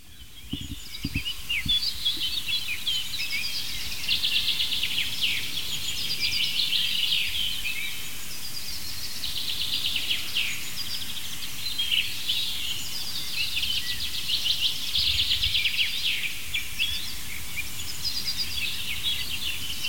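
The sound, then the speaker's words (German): Dense dawn chorus of many songbirds, overlapping chirps, trills and whistles forming a continuous, fairly loud wash of high-pitched song with no talking. “Das klingt ja so für ungeübte Ohren oft wie so ein richtiger Klangbrei.”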